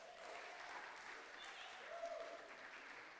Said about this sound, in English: Church, let's clap and encourage our kids.